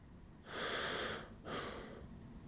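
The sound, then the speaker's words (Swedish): A person demonstrates deep breathing: one long, airy inhale followed by a shorter, forceful exhale, both loud hissing rushes of air with no talking. “Så andas man.”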